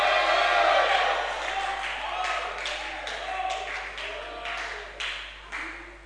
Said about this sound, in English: Oh, let me hear a bigger shout. Let me hear a bigger shout.